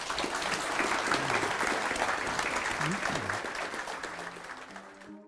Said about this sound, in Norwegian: Og med det så har vi brukt tida, så da tror jeg vi må si stopp, må vi ikke? En applaus til panelet.